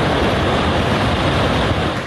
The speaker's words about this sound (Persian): در همین حال سیمای جمهوری اسلامی امروز از ادامه وضعیت وخیم در استان خوزستان و آب گرفتگی جاده اهواز آبادان گزارش داده. دست کمی از دریا نداره اینجا، صدای آب گوش کنید فقط.